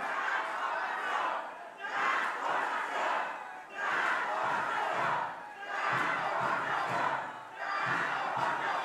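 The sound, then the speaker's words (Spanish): A large crowd at a political rally in Solidaridad, Mexico, shouts the chant "Transformación" in unison, loud, with repeated surging phrases about every two seconds and brief dips between them. “Este grito se oye en todo el país, desde el sureste hasta el norte, desde la península de Baja California hasta la península del sureste de Yucatán.”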